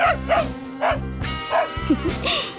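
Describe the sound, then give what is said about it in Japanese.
A dog barks repeatedly, about six sharp woofs in quick, uneven succession, loud and clear with no other sounds around them. “犬に吠えられてる。”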